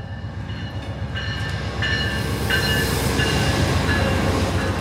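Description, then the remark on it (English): The Amtrak City of New Orleans passenger train rolls steadily at night along the old Illinois Central line from Carbondale, Illinois toward Fulton, Kentucky, with a rhythmic low clatter of wheels and a few thin metallic squeals rising over it, loud, with no one speaking. “We're here to ride the city of New Orleans all the way to Fulton, Kentucky, on part of the old Illinois Central Line”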